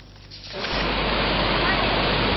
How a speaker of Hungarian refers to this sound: Ez az amatőr videófelvétel a Salamon-szigeteken készült, és a cunami második, az elsőnél valamivel enyhébb rohamát rögzítette.